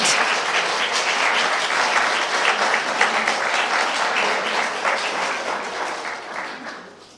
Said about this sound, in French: C'est vrai qu'il y a une tradition chez nous de dire Amen, mais c'est vrai que c'est un événement que l'on peut applaudir.